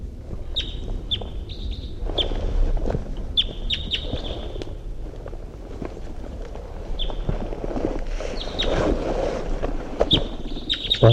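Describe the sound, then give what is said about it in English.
Wild birdsong repeats in short, high-pitched chirping phrases throughout, bright whistled notes coming in bursts over a steady low rumble of wind and water-like background noise. “Wild bird's coming in. Wild bird in flight. Wild bird song phrase.”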